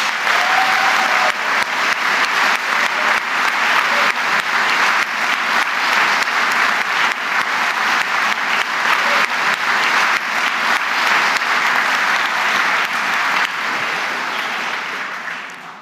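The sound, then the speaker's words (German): A crowd applauds Christian Streich, former professional player and coaching legend of SC Freiburg, steadily for about fifteen seconds, a dense and loud wash of clapping with a brief faint whistle early on, fading slightly at the very end. “Applaus für Christian Streich.”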